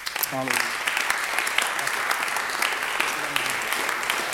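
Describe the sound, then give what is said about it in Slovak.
An audience breaks into steady, sustained applause for Jesus, a dense wash of clapping that holds at an even level throughout, with a brief voice calling out over it near the start and again later. “Dajme potlesk Ježišovi.”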